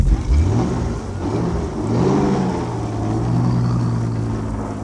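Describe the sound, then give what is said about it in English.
A car engine revs up and accelerates while heading out of town before dawn onto a jammed two-lane blacktop road, its droning pitch climbing and then holding steady at a loud level, with no voices over it. “It's still dark when we head out of town. The two-lane blacktop road is jammed.”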